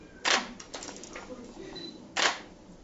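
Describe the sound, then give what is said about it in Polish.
A camera shutter snaps twice, about two seconds apart, with soft little clicks and fiddling sounds from the camera's controls in between, as a woman adjusts her camera's settings while photographing in a bright room. “Niewyraźne są zdjęcia. Muszę aparat poustawiać.”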